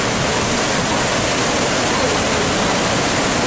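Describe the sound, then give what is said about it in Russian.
Steady, loud rush of churning water, a dense hiss of spray and surging foam in the wake of a cruise liner on the ocean, continuous and unbroken with no voices. “Вот такой след остается после нашего круизного лайнера.”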